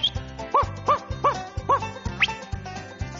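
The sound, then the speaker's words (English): Bob the kelpie sheepdog barks four times in a quick, even rhythm, the sharp yaps clear over a steady musical beat, followed by a short rising whistle. “I just give a whistle, and I call for Bob the Kelpie.”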